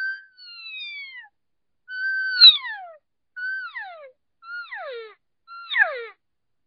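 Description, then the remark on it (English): A cow call blown on a game call by shortening and squishing down a longer call: five high, nasal, whistly calls that slide downward in pitch, each one shorter and more abrupt than the last, separated by brief pauses, with no talking. “I just squished it right down to a cow call.”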